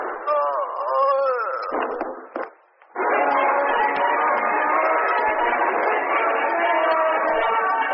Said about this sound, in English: Oh, heard a shot in there.